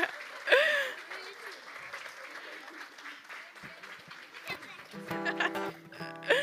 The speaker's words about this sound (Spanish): A ver, Iglesia, yo creo que un aplauso mucho, mucho, mucho, mucho más fuerte. Lo han hecho muy bien.